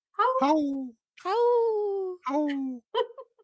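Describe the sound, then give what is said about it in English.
A child's voice imitates a wolf howl in four drawn-out wails with falling pitch, the last one short and broken, with no other sounds. “I heard one of them howl a little bit, right?”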